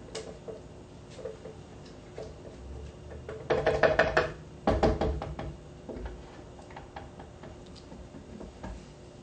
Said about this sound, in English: Because the tahini is sticking to the side, I'll stir it a little bit with the spatula.